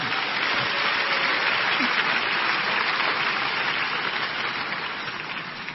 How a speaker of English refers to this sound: Please give God a big hand and take your seat. If that clap is for the Lord, make it bigger.